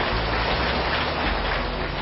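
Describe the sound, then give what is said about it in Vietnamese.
A crowd gives a long round of applause at a Buddhist Sangha ceremony in Vĩnh Long province, Vietnam, in a dense, steady wash of clapping that holds an even loudness throughout, with no voices heard over it. “Vâng, chúng ta cho một tràng pháo tay dài lớn.”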